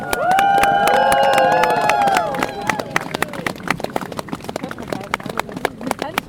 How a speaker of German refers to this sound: Und da ist der Bus, ich sehe ihn. Jetzt bereitet unsere Spieler mal einen gehörigen Applaus. Hier kommen die Legenden!